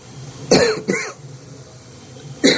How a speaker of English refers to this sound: You will hear a little bit more of this tonight, coughing, but tomorrow it's gone.